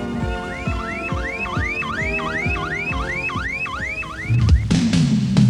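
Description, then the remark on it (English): A loud car alarm whoops in a fast, steady cycle of about ten repeated rising wails, then breaks off into a brief burst of rough noise at the end. “Only at Withington Car Radio and Alarm.”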